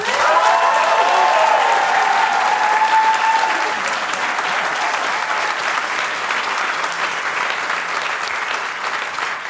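Sustained, loud applause from an audience, a dense wash of clapping that holds steady for the full stretch with a few whoops early on, easing only slightly toward the end.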